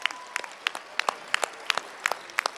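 At a family festival, a small group applauds for the children, their claps sharp and scattered rather than a dense roar, with a slightly irregular rhythm at a moderate level. No voices can be heard over it.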